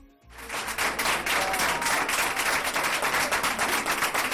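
A crowd applauds steadily as a COVID patient returns home after 400 days in hospital, many hands clapping in a dense, crackling wash that starts abruptly and stays loud and even throughout, with no voices standing out.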